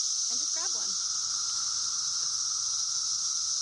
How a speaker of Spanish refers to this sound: Pero primero tienes que atrapar las cigarras afuera.